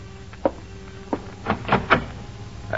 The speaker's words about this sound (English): And an hour later, someone knocks on the door of your apartment.